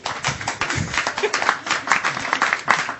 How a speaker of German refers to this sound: Guten Tag. Kleiner Applaus.